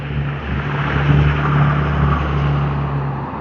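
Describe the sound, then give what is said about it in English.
A loud, rumbling engine of a very large pickup truck drones, its deep low hum swelling slightly as it rolls past, with no voices. “No, they're just a very noisy, very large pick 'em up.”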